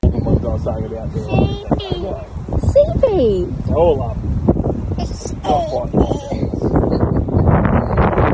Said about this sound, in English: Again, it's quite windy.